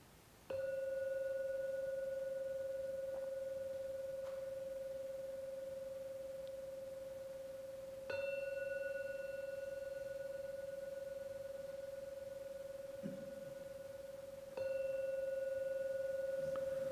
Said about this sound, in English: So get ready to come out of the meditation. In a moment or two I'll ring the gong 3 times. At the end of the 3rd ringing of the gong, come out from the meditation.